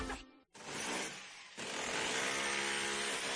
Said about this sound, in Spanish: Vaya pasada de taladro. Sí, es un taladro Makita.